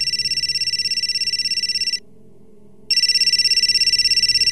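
A telephone rings loudly with a fast electronic trill, a call from an unknown number: one long ring, a short silence, then a second ring begins, over a faint low background hum.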